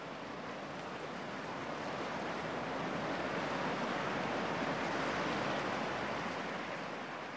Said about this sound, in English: Sound effects are usually, but not always, sounds that are made artificially. They're not real, but sound very realistic. For example, here's a sound effect of water, which may or may not have been made at the sea.